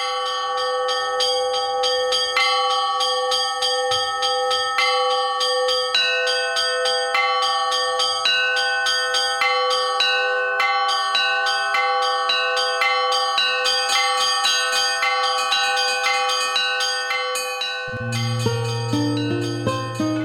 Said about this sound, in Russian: Пока ритм монашеской жизни отбивают колокола звонницы, находящиеся рядом с колокольней.